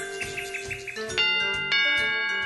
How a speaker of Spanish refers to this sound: ¿Quién toca el timbre?